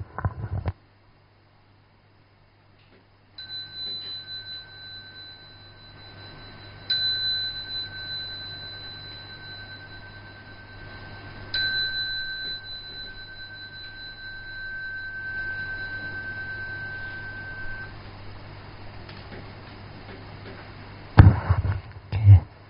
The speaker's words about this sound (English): slowly, mindfully, come out of meditation. I will ring the bell now.